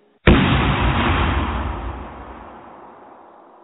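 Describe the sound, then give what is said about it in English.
A single loud TNT explosion sound effect bursts in suddenly after a brief silence, then rolls into a deep, rumbling decay that slowly fades over several seconds, with no voices. “Please prepare for a TNT explosion.”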